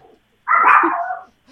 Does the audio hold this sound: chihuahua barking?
yes